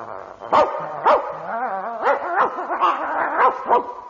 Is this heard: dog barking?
yes